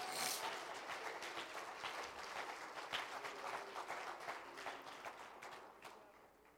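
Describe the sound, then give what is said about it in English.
An audience breaks into sustained applause in praise, many hands clapping in a dense, steady patter that holds for several seconds before tapering slightly at the end. “Why don't we just give him some hand clap of praise?”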